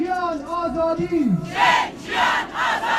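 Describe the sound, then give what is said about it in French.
Several hundred protesters gathered in fine rain and cold before the Brandenburg Gate in Berlin chant a slogan together, starting with a long sustained shout and then breaking into three rhythmic, forceful bursts of voices in unison; their slogans include the Iranian revolution's "Woman, life, freedom". “Parmi les slogans scandés, celui de la révolution iranienne, « Femme, vie, liberté ».”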